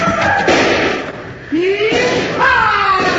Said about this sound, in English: Here, I'll get that door open for you.